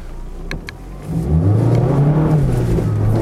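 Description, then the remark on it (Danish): Two quick clicks, then a Mazda MX-5 sports car engine without a turbocharger is started and roars up loudly as it accelerates, its pitch rising and holding steady while the rear wheels spin on a wet road. No one speaks. “Ja, der spinder den altså lidt på baghjulene. Det er fordi, der er blevet vådt på vejen.”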